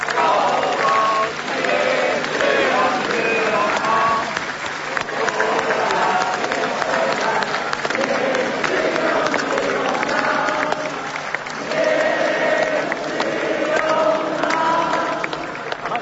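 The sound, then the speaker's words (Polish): In a church, an audience claps for a couple for about sixteen seconds. It is a dense, even patter of many hands that holds a constant loudness throughout, with a murmur of voices and a few cheers mixed in. “Oklaski dla nich.”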